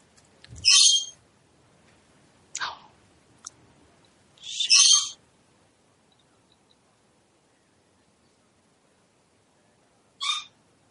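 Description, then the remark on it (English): Harsh, screechy bird calls ring out in a handful of short, irregular bursts, fairly loud, with quiet gaps between them and no talking. “it seems that the birds are quite a unique little festive addition to this call.”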